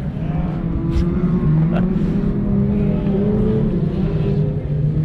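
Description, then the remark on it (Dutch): Race cars drive around a track, their engines producing a loud, continuous roar whose pitch climbs gradually as they accelerate, with no break in the droning noise. “Ja, je zou je toch afvragen waar al die deuken op die auto's vandaan komen,”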